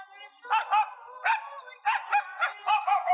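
A dog barks in a quick series of sharp, high-pitched yaps, some coming in close pairs, loud with short gaps between them and no one talking.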